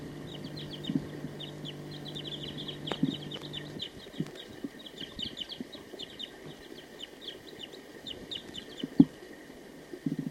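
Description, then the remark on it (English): A wild bird calls with rapid, repeated high-pitched chirps that run steadily through the whole recording, over a constant faint hum, with a low droning tone in the first few seconds. “So recording the wild bird again.”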